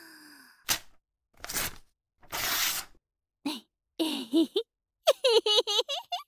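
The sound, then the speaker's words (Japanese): Three short bursts of crinkly paper rustling as wrapping paper is pulled open, fairly loud, followed by a few soft nonverbal vocal sounds like sighs and giggles. “よし、じゃあ、包装紙を解いて、と。”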